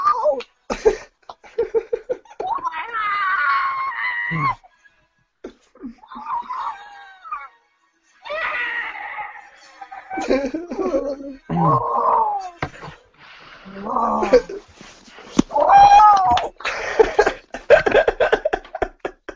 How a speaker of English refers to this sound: if you did that in the cinema, that would be so funny. Like a scream like that, though. Not like, woohoo! Like it was louder, like crazy.